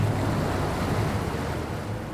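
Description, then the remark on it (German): A riverboat's engine drones low and steady while water washes continuously along the hull as it moves slowly upstream on the Weser toward the Hemelingen lock, with some wind rushing over the microphone; no one speaks. “Wir blicken von Bord der Gräfin Emma auf die Weser und bewegen uns ganz langsam flussaufwärts Richtung Hemelinger Schleuse.”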